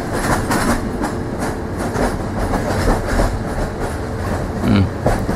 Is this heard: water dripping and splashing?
no